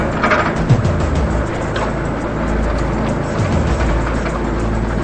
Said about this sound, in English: The old blue car slowly passes the Ocean Inn restaurant.